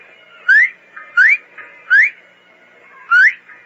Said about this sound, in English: Whistle 3 times. Then once. Like this.